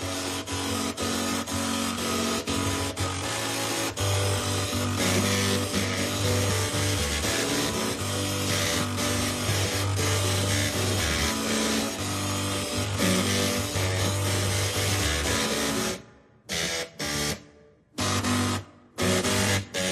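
A tune played on printers and floppy drives: buzzing, grinding mechanical tones carry a steady rhythmic melody, loud and continuous, then break into short stop-start bursts near the end.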